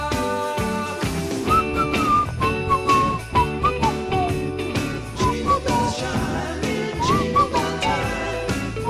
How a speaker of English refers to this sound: The one horse sleigh. That's the jingle bell.